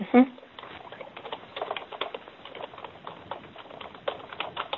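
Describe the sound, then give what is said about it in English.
Rapid, irregular clicking of keys on a computer keyboard, fairly soft, running steadily for several seconds, with a brief voice sound at the very start. “I'm typing.”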